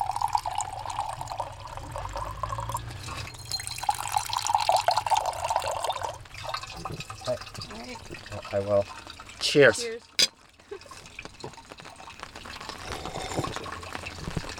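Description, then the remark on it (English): Water runs steadily from an open spring on the north side of Pittsburgh as a cup fills, a continuous splashing trickle with a few drips, while people talk briefly over it. “It was a social place for people to gather, and probably also just a novelty, too, as this is one of the few open springs in the north side of the city of Pittsburgh generally.”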